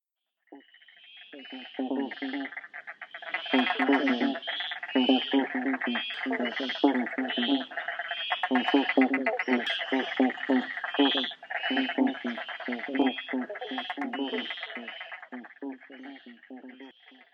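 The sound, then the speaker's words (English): A dense chorus of frogs in the Macedon Ranges calls nonstop, overlapping rapid pulsing croaks and trills that stay fairly loud from start to finish. “In this podcast, we're going to learn about five different frog species and their unique calls.”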